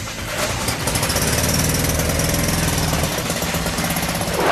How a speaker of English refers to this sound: fixed the small engine.